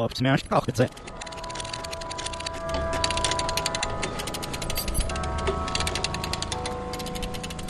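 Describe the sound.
A ratchet jack being worked, giving a long run of rapid, dry metallic clicks that keep a steady pace for several seconds over a faint tonal hum, after a brief voice at the start.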